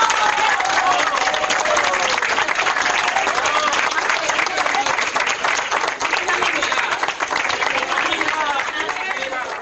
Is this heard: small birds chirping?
no